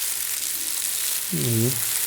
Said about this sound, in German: Und wenn ich das so ein bisschen knautsche in den Händen, dann hört sich das so ein bisschen an wie Regen.